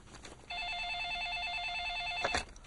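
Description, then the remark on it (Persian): A telephone line rings from a public payphone across the street, in Moscow, with a rapid electronic trill, one steady burst lasting about two seconds, clear, with faint background noise and no talking. “من باید خودم رو به یه تلفن برسونم. یکی اون طرف خیابون هست.”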